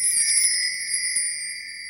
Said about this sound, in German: Da läutet es jetzt für unseren Adventskalender heute vom 23. Dezember